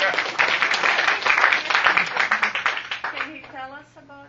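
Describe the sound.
An audience applauds a translator with a dense, steady patter of many hands clapping for about three seconds, then the clapping fades as a voice starts talking.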